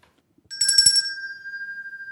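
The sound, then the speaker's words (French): A small bell, chosen at random in an ear-training lesson, is struck once, a brief clattering attack followed by a clear, high, steady musical note that rings on and fades slowly. No one speaks. “tu viens tirer une cloche, là.”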